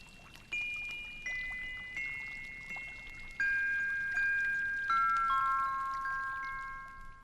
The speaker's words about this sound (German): Und als der dicke, honiggelbe Mond zwischen den nachtdunklen Wolken spazieren ging, plätscherte der springende, singende Brunnen wieder wie eh und je im Märchenland.